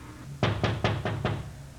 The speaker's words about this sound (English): In nothing flat, I was knocking on her door.